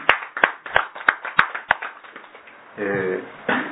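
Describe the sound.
A steady run of sharp, loud claps, about six or seven strong beats in even rhythm, fades out, and then a voice begins speaking.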